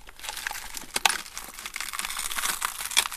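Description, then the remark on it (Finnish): A foley imitation of creaking, crackling ice made by crumpling the plastic of an old car windshield: dense crinkling and sharp cracks with occasional louder snaps, a continuous brittle rustle lasting a few seconds, with no voices. “Tuolla on tehty jään kitinä ja rutinaa.”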